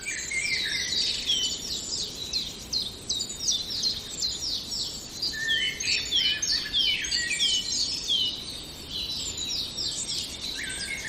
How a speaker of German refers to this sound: Und dann etwas zarter. Hören wir den wunderschönen, perlenden Gesang vom Rotkehlchen.